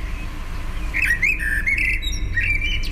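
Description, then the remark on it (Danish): A blackbird sitting close by calls in bursts of warbling, squawky notes with a buzzy, electronic quality like an old modem, clear over a low rumble of background noise. “Det lyder som en gammel modem.”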